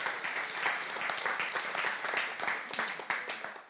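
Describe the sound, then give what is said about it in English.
An audience claps steadily for several seconds, a dense crackle of many hands without any clear pauses, holding a fairly even loudness throughout. “You can clap for that.”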